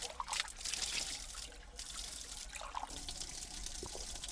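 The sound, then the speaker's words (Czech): Steady trickle of ice-cold spring water running straight from rock at a spring on a gloomy day, a continuous bright splashing with small gurgles and drips, and a low rumble beneath; no one talks. “Tak a my už jsme přišli k pramenu. Jsou tady přichystané hrníčky.”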